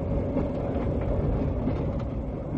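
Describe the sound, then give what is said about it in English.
An Indian-made train, set up by the Indian government and carrying railway experts from the United Nations Economic Commission for Asia and the Far East across India, rumbles along steadily: a dense low-pitched roar with faint rhythmic clatter from the wheels, constant in loudness throughout and with no voices. “It carried a group of railway experts from the United Nations Economic Commission for Asia and the Far East all over the country.”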